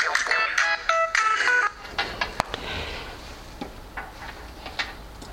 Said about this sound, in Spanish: Por supuesto, tenía que llamarme a alguien por teléfono. Esto siempre pasa cuando alguien está grabando. Perdón.